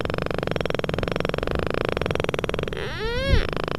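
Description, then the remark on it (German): A rapid, steady train of underwater echolocation clicks, made audible for human ears for research by scientists of the Tierärztliche Hochschule Hannover, blurs into a buzzing rattle throughout, and near the end a brief tonal chirp bends upward and back down over the clicking. “Aus den Reflexionen errechnen sie dann, wo sich Hindernisse im Wasser befinden oder auch ihre Beutefische.”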